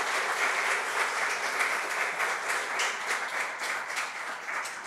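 A crowd applauds steadily for about five seconds for a prize-winning painter at a Nicaraguan art competition, a dense, even wash of many hands clapping at once with no pauses and no voices over it.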